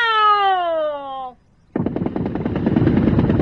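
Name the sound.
volley of rifle gunfire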